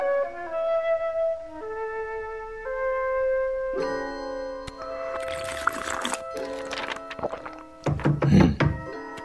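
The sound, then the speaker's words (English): Heavy thuds of someone pounding on an office door at night, a few loud irregular blows landing over sustained, droning musical tones, with a clustered burst of knocking near the end. “Who's pounding at my office door at this time of night?”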